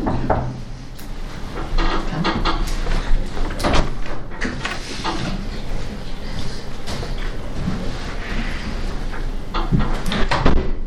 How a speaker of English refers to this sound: If you could open the door again for them.